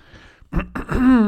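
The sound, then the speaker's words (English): A person clears their throat: two rough, raspy bursts that finish in a short voiced hum, after a moment of near silence. “Let me clear my throat and take a drink.”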